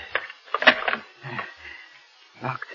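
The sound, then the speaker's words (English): A person locks and bolts the door of their room: a quick run of sharp metallic clacks and rattles, a softer scrape, then a final clunk, all moderately loud with short pauses between. “Now wait, I must lock the door.”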